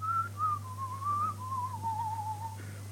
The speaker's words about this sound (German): Was pfeift er eigentlich? Was ist das?